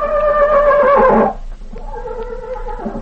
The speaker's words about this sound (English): always was a smart horse.